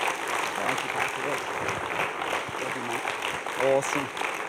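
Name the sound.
audience applause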